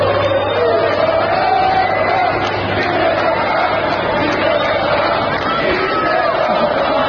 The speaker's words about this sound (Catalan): Doncs dimecres els aficionats que es van desplaçar fins a Villarreal per veure el partit del Girona li cantaven això a Mitchell.